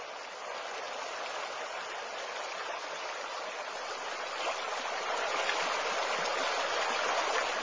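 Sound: flowing river water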